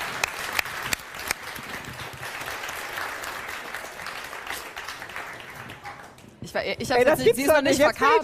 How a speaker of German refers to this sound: Eben bei den Proben hat sie immer bei Applaus gebellt. Wollen wir mal kurz applaudieren, mal sehen, ob sie es wieder macht?